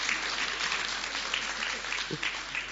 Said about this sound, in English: So let's stretch out a hand and pray. Oh, that's going to be an applause. That's two hands you need to do that, so you can do that first.